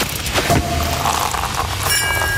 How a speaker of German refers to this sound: Radio an, denn immer, wenn ihr bei uns die Sektkorken knallen hört, Achtung, schneller Beispielton.